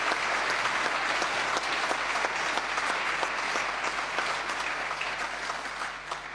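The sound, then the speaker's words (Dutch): A large audience of members at the close of a meeting claps steadily and warmly to thank the clerk and everyone who helped organize it, a dense, sustained wash of applause lasting several seconds before easing slightly toward the end. “En ik wil voor haar en voor alle mensen die eraan meegewerkt hebben van u een hartelijk applaus vragen.”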